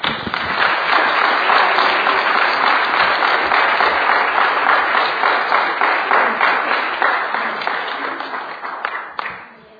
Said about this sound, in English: So, you know, we really need to give them an applause.